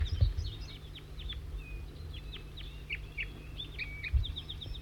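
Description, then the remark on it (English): Two wild birds, which look like juveniles, chittering: a busy run of short, high chirps and quick downward chips, some repeating in rapid bursts, over a steady low rumble of background noise. “Pointing right at the wild birds, chittering.”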